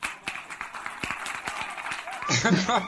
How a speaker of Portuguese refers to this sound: Eu quero uma salva de palmas, mas aquelas palmas de estúdio.